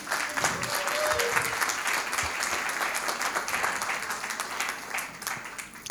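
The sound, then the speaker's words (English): A church crowd applauds steadily for several seconds as a thank-you, a dense, even patter of many hands clapping at a fairly constant loudness, with no voices standing out. “So let's give him a clap.”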